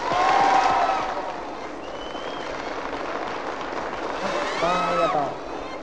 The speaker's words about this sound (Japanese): わあ今日はね非常にこう男の人が多いようですね。そこでねちょっとね男の人だけ拍手してみてください。